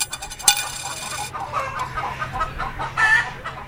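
Chickens cluck in a busy, overlapping chorus of short, repeated calls, with a sharper squawk near the start and another burst toward the end.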